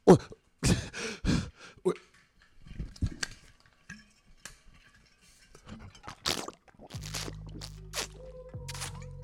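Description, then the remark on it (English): Loud swallowing and gulping of water from a gallon jug, a string of quick wet gulps with sloshing liquid, then a few sighing vocal sounds and a low hum near the end. “it'd be the day you wake up when you grab the gallon jug and you almost drink the whole gallon.”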